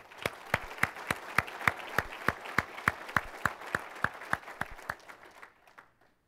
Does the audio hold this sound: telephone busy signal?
no